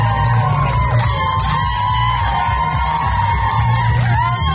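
A roadside choir loudly belts out a rock song, many voices straining together in a steady, shout-like chorus that fills the whole stretch without a break.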